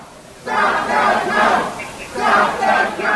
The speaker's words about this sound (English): You can hear them chanting, "Stop the count," as they were met by police who shielded the doors of the TCF Center.